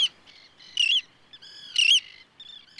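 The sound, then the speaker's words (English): Roseate tern calls ring out from birds flying overhead at a campsite at Nickerson: a few harsh, raspy notes repeated at roughly one-second intervals, fairly clear and prominent, with fainter chatter between and no voices. “For example, whenever we camp at Nickerson, I hear roseate terns overhead.”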